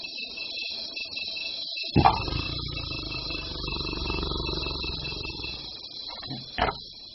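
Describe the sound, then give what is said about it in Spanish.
A big cat lets out a deep, rumbling roar that swells suddenly and rolls on for several seconds, ending in a short final grunt, with a steady high chirr of insects throughout. “Ahora, ¿qué le parece si escuchamos algo acerca de los felinos?”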